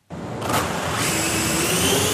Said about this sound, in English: It sounds like an ordinary drone, but it's not. At the Canberra campus of the University of New South Wales, the drone is being trained to work with other robots to achieve a common goal.